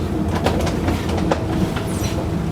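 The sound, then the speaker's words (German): An underground U-Bahn train at Kurt-Schumacher-Platz station rumbles steadily along its rails, loud, with a scattering of sharp metallic clacks and squeaks breaking through the continuous low roar. “Was soll's? Wir fahren einfach weiter.”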